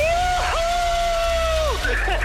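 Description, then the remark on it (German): A loud, drawn-out cheer held on one high pitch for over a second, then dropping away as more excited shouting voices take over, with a steady rumble of background noise throughout. “jubeln hören.”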